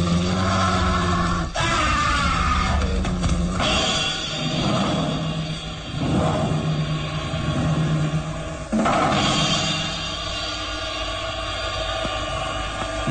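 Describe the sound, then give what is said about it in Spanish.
A werewolf growls and roars loudly and continuously while attacking a victim, with rough, snarling bursts rising and falling over about thirteen seconds, no speech. “El lobo humano cobrará otra víctima.”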